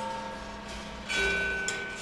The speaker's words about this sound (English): Balls bounce and bang inside an audio kinetic sculpture, hitting gongs and xylophone keys.